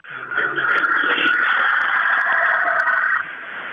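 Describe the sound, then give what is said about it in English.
A truck passes, heard from a front porch, a steady roaring hum with a slight whining tone that holds for about three seconds before dropping off. No one speaks. “What was that sound just there in the background? Was that like a jet or? That was like a truck.”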